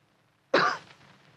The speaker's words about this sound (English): After a moment, he gave what he thought was a discreet cough.